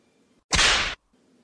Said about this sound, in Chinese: 不过期待与恐惧交织在一起，你很喜欢这个感觉吧？来，再来一鞭子。下一鞭总该打到肉棒上吧？